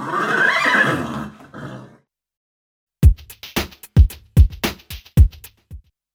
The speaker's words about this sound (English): there is nothing I like more than riding Brown Beauty, my wonderful horse